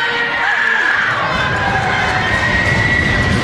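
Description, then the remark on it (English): A loud, dense basketball arena crowd roars continuously during a tied game in the second overtime as a player steps to the free-throw line, with overlapping shouts and cheers forming a steady wall of noise and faint squeaks cutting through. “Foul him out, making all kinds of noise.”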